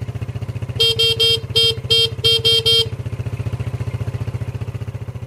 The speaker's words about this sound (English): The best bit was when she came back up the drive after her 2 year stint, and we heard a boop boop. It was Gretel's ridiculous horn.